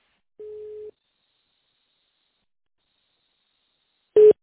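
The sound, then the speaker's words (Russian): After the automated greeting of the Adapt group of companies' phone line, a single steady telephone beep at a mid pitch lasts about half a second, followed by a long silence and then a brief, louder, harsher burst of tone at the very end. “Если вам известен внутренний номер сотрудника, после гудка наберите его в тональном режиме или дождитесь ответа секретаря.”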